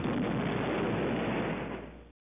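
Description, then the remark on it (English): A distant explosion: a dense, low rolling rumble that holds steady for about two seconds before cutting off abruptly, with no voices present. “A distant explosion is heard.”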